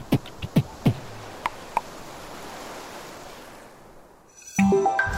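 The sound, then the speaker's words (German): Ocean waves of the sea at Dakar wash steadily onto a beach in a broad, hissing roar, with a few sharp knocks early on; the surf fades before a brief tonal, musical sound cuts in at the end. “Also lasse ich euch allein mit Meer und seinem Sound.”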